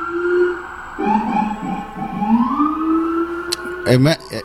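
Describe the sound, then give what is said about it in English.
An ambulance and a police vehicle go by as a siren wails in a long, slowly rising tone, fairly loud and steady, with brief muffled voices and street noise breaking in near the end. “A fucking ambulance or a police? I saw an ambulance and a police.”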